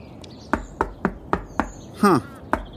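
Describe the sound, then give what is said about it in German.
About six sharp, hollow knocks on the door of an old villa, struck at a steady, unhurried pace, with a brief high chirping sound slipping in between the last two raps. No one speaks. “Am besten ich klopf mal.”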